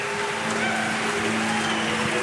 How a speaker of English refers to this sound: Man, they start booing you as soon as you walk out here.